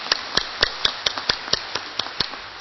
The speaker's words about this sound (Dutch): Grote Kerk, bedankt. We blijven klappen.